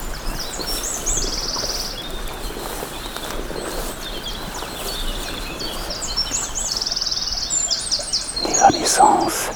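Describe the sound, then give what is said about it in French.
A steady rush of flowing stream water in the Pyrenean foothills fills the background while birds chirp and sing repeatedly over it, with a slightly louder burst of water and calls near the end. “Le ruisseau.”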